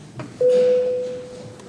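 A chairman's bell in a parliament session sounds before a vote by the deputies: a single bright electronic bell tone sounds suddenly and holds steady at one pitch, fading slowly over about a second, with faint room murmur underneath.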